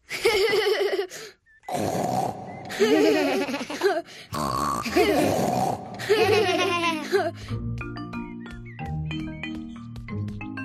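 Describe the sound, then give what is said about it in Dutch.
A voice imitates a pig with a run of loud, throaty grunts and snorts in short bursts, mixed with giggly laughter, before a light, plinking melody takes over. “Nu maak ik ook zo'n grote knor.”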